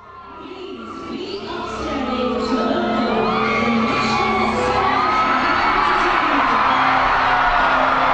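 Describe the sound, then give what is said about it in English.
A large crowd of tens of thousands of Fijians in Nadi cheers and shouts, waving flags to welcome home Fiji's Olympic gold-medal sevens team along streets from Nadi International Airport to Prince Charles Park, swelling from a moderate murmur into a loud, sustained roar of overlapping voices, whoops and high-pitched yells. “Supporters lined the streets, cheering and waving flags from Nadi International Airport to Prince Charles Park, where close to 8,000 fans greeted the team.”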